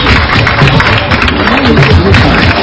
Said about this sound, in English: In second position, that is Ndeje University. Congratulations, Ndeje. Congratulations. Another hand clap for them.